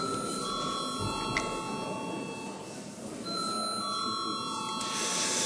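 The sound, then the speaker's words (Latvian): A Latvian Saeima (parliament) voting bell rings steadily for several seconds before a vote, a continuous bright electric ring that briefly wavers near the middle, over a low murmur of room noise. “Lūdzu zvanu.”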